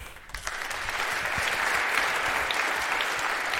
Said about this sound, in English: Applause.